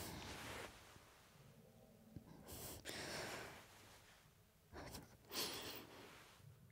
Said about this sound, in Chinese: 你别对着我喘气。你 你再吹耳朵，我就控制不了了